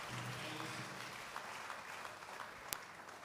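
An audience claps steadily for a few seconds for a speaker's contribution, a dense wash of many hands with one sharp, louder clap standing out near the end and no talking over it.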